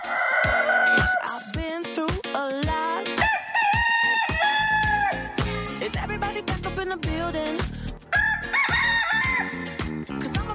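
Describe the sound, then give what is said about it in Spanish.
Loud, repeated rooster crows ring out over a driving rhythmic beat, the crowing calls stacked in quick succession like part of a music track. “Y ya saben que los miércoles aquí los gallos se ponen muy, pero muy felices.”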